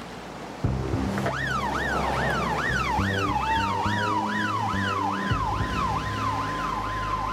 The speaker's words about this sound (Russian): Примерно через полчаса где-то рядом с воем промчалась машина скорой помощи.